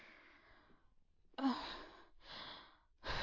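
A person breathes heavily and audibly, with several long, breathy exhales and inhales in a steady rhythm, fairly loud, with no speech.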